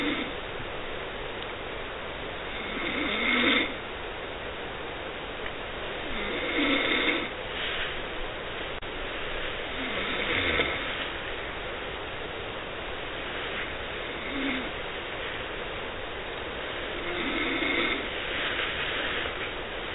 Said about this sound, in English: I don't have it shortened up, so it's going to be 20 seconds of snoring, but I want to hear it again.